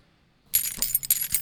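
A bunch of keys jangles, a bright, irregular metallic clinking that starts abruptly after a brief silence and continues in quick, uneven shakes.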